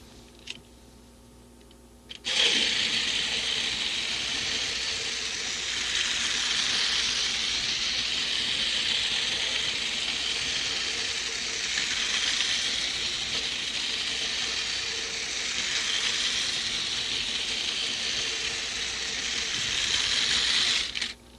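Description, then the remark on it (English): An electric toy train with a coal car, flat car and caboose is switched on to run fast, its motor giving a loud, steady, high-pitched whir with faint rattling that starts abruptly after a short quiet pause and continues unbroken for nearly twenty seconds. “Now I'll turn it on and make it go fast.”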